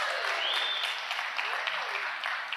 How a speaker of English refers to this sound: Whoa. That's your first round of applause. You pretty excited about that?